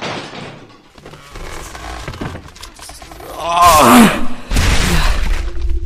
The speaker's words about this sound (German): In Hinter der Tür müsste es zum Hof gehen. Hoffentlich gelingt es mir, sie aufzubrechen.